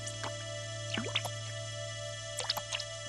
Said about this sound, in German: Plötzlich hat Kalli nasse Füße. Was ist das? Wasser im Schiffchen? Kalli beginnt das Wasser aus dem Boot zu schöpfen.